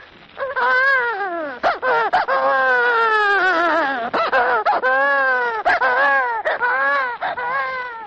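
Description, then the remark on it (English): An expert crier imitates a baby crying into a microphone in a studio, producing long, wavering wails with rising and falling pitch and brief catches of breath, loud for several seconds. “Either by having an expert crier weep into the mic and flood the studio with tears,”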